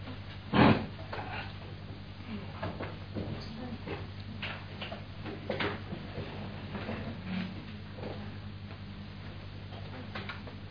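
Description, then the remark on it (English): Chairs being shifted and set down to make more seats: one sharp knock near the start, then scattered softer bumps and clicks over a steady low hum, with faint voices in the background. “I guess we need some more seats here. Here's a seat. Let me take this chair.”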